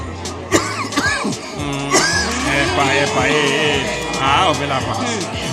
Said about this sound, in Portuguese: um dos clientes, desata a tossir.